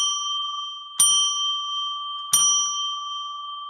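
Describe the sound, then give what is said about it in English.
A small bell rings out three times at a steady pace to declare a spiritual space, each bright strike lingering and overlapping the next, clear with no talking. “we'll get ready for show number 430 after we ring the bell to declare a spiritual space.”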